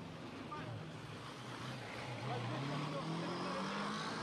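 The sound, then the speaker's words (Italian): Steady, dense street traffic on Viale Camilluccia at 10:10, at the scene of an attack with many cars and ambulances: engines rumbling and droning, one rising in pitch as it passes, with a constant wash of road noise and an indistinct murmur of voices underneath. “Carabinieri della polizia stanno girando, ci sono molte automobili, ambulanze, infermieri, andiamo ad avvicinarci per cercare di capire, di capire meglio.”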